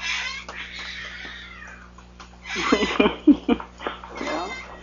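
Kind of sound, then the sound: animal, cats fighting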